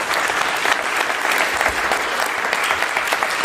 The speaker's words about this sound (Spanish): Un aplauso, por favor, para